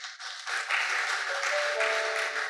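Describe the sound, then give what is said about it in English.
A church audience breaks into sustained applause for the women present, a dense, steady wash of many hands clapping that swells after a brief start and holds loud, with a few faint cheers or tones mixed in. “I'd like us to give them a round of applause for this special month.”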